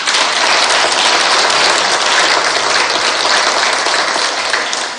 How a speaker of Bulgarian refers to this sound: Още веднъж честито ви аплодисмент.